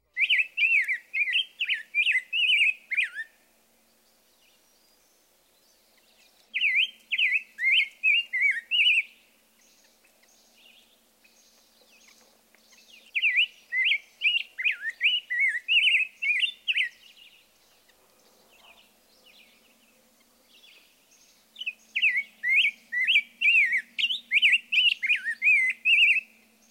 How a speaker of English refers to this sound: Perhaps the most exuberant singer of this group, and the one with the richest tone, is the rose-breasted grosbeak. In fact, we could well have placed this bird in the whistler category. Listen to his sing-songy whistle.